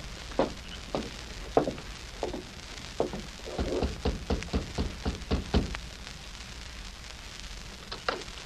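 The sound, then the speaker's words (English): Heavy pounding on a door: several separate thumps, then a rapid flurry of about eight hard blows, with a final lone knock after a pause. No voices, only a low steady background hiss. “You're pounding on the wrong door.”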